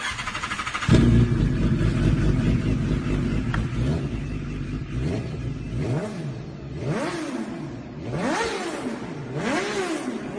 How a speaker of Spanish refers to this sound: os quiero poner lo bonito que fue que volvieran a arrancar la moto de Dani Rivas justo al lado de su féretro, y fijaros cómo la gente rompió en aplausos. Bueno, eso fue ayer en ese emotivo funeral por Dani Rivas.